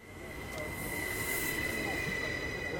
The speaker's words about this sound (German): 11.01, Gleis 2, Bahnhof Laufen. Die S3 in Richtung Delémont fährt ein. Eine moderne Flirt-Kombination, 75 Meter lang. Also Sie sehen jetzt, er hat 75 Meter. Der hält jetzt ziemlich gut an.